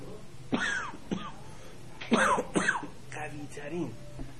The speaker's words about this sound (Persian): اونم میخورم اثر نمیکنه رو سرفه میاد، چون این سرفه عادی نیست، یعنی سرفه حساسیتی نیست، سرفه ناشی از ویروسه.